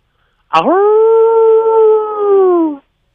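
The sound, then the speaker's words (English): A person imitates a dingo howl with one loud, sustained, mid-pitched wail that swoops up sharply at the start, holds steady for about two seconds, then sags slightly before cutting off. “Give us the, while I've got you, give us the dingo as well, just out of curiosity.”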